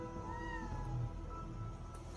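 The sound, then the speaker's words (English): At the start of a video clip, a drawn-out, plaintive cat-like meow with a wavering, tonal pitch, sustained for about two seconds, with no talking. “It starts with what sounds like the plaintive meow of a cat.”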